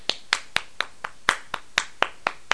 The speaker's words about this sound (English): Clap your hands.